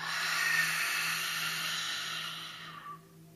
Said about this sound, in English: Practice one more belly breath right now to ensure you're ready for whatever might happen. Inhale, belly expands like a balloon. Exhale, belly comes towards your spine.